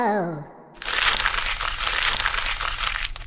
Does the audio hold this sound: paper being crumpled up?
yes